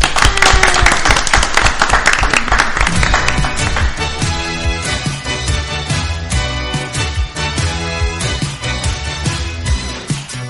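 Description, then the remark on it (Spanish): An audience at the Festicomi event bursts into dense, loud applause for a few seconds, then the clapping gives way to steady rhythmic music with a regular beat that carries through to the end. “Un aplauso.”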